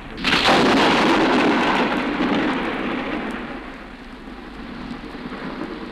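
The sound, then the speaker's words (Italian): A sudden, violent crack of thunder bursts in loudly, then rolls into a long, heavy rumble that slowly fades, with no voices present. “E quando al misterioso rombo del tuono e allo schianto improvviso e violento del fulmine”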